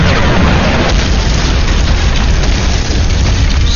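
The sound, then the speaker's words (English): Loud, dense bursts and booms of live AK-47 rounds cooking off in a curved magazine lying amid burning shrubbery as an LAV passes, packed together into a continuous roaring crackle, with no voices. “As the LAV went past, the live round started cooking off.”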